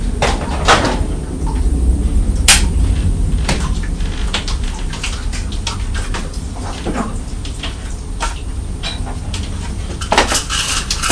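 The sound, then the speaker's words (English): Leftover food from last night is scraped from Belle's bowl into a bin, with repeated clinks, knocks and scraping strokes over a steady low background, with no talking. “That's a little bit left from last night, which she didn't want, so put that in the bin.”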